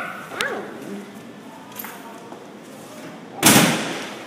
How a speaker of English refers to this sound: Too loud. It was too loud? Yeah, when you slammed it. That was too loud. Oh, well, when I slammed the door? I was just closing the door. But it was too loud.